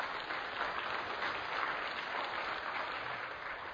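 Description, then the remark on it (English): A large audience applauds steadily, a dense wash of many hands clapping at an even level for the whole stretch, with no voices rising above it. “And that applause is for God and the way He is working in so many men here who are real men, who are not quitting.”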